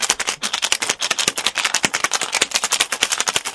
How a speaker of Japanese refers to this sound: これで、グレナデン。これを何滴か入れましょう。よし。よしよしよしよしよし。これでシェイクだ。